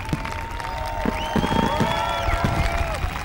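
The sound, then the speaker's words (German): Fireworks going off: long whistling tones glide and hold over a steady crackle, with a cluster of sharp pops and bursts in the middle and another burst near the end. “Das ist kein Gewitter, sondern nur ein Feuerwerk.”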